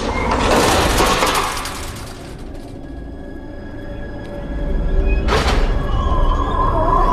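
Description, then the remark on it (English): One of a pair of double doors in a corridor swings open and shut and bangs, with a long creaky mechanical rush at the start and another sharp knock several seconds later, against a steady hum. “As it continues to open and close, Emily strides towards it.”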